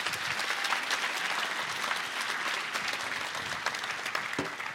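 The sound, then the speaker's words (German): Sustained, dense applause from a sizable audience, given as a big final round of applause to vote for a reader, steady and loud throughout with many overlapping claps and no speech on top. “Und zwar jetzt macht einen riesen Finalapplaus”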